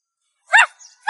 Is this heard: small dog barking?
yes